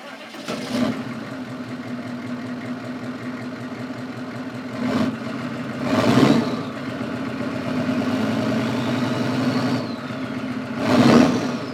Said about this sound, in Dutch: De auto. Chevrolet Pickup, 1986, V8, 6,5 liter turbodiesel.